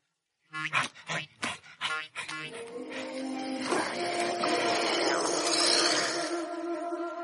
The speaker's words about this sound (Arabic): هذا كلب آخر لا يحمل رخصة. لن تهرب مني أيها الكلب.